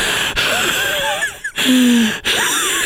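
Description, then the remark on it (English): A person imitates the deep, heavy breathing heard on GoPro audio of people climbing really tall buildings: a few loud, rasping breaths with strained, wheezy gasping tones, short pauses between them, and no talking. “This is just some deep breathing and that's all you hear on the GoPro audio and I just can't stand that.”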